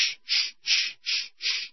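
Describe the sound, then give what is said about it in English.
Two men work a two-handed saw, sawing down a cross: it rasps through the wood in five steady back-and-forth strokes, each a loud, hissing scrape with brief pauses between. No voices are heard. “It's a two-handed saw and a couple of guys sawing down a cross.”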